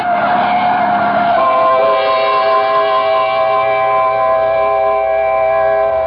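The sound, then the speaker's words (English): A truck bears down in a street with a rushing roar and screech, then a loud, sustained horn blares steadily for several seconds. No one speaks. “Look out for the truck, Mildred!”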